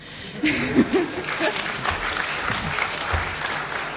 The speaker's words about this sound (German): Also dass auf diesen Namen hier mal Applaus kommen würde, hätte ich ja nicht gedacht.